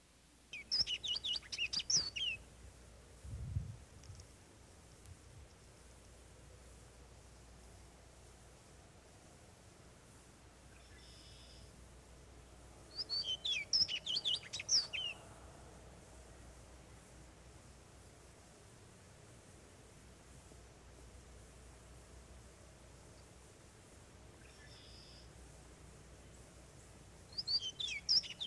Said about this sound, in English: The little orchard oriole, also in the blackbird group, nests in the northern third of the state. Its song is a melodious and extended complex containing a variety of notes.